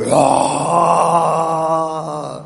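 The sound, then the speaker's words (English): A person imitates a lion's roar, the big roar that came out when Nrisimhadeva punched the pillar, with a single sustained, loud, growling vocal blast that holds steady for about two seconds before tapering off. “But then, before coming out, when he punched the pillar, big roar came out.”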